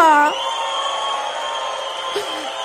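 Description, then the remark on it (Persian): An audience cheers, screams and shouts hooray as a greeting, in a steady wash of crowd noise, with a long sustained high whistle running through it and a brief shout at the start. “یه دستجیغ سود هورا سلام رو هوا.”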